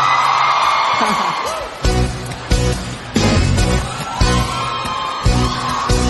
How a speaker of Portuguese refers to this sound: E aí, gente? Quem tá gostando, dá um gritinho.